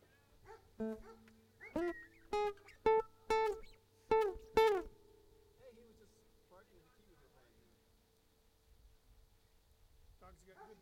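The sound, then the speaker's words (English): A voice howls a quick run of about six short, pitched, sing-song notes like a singing dog, fairly loud, followed by a quiet stretch of faint background noise. “You sound like that dog that sang Jingle Bells.”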